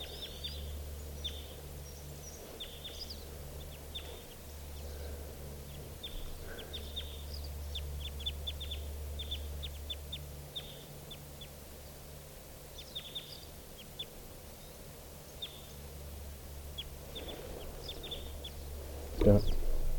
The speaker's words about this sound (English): Now those three type 2 crossbills plus a siskin are flying off together. And they're still here in the trees.